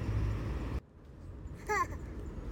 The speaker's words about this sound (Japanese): 今日も子供と公園に来ている合間に撮っているので、子供の遊ぶ音とか、近くを走る車の音とか少し入ってしまうかなと思うんですけれども、撮っていきたいと思います。